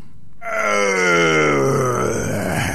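A loud, drawn-out roar of the dragon Zmey Gorynych from a Russian tale, voiced by a person. It starts after a brief silence and growls on for over two seconds, its pitch sliding slowly downward as it rumbles.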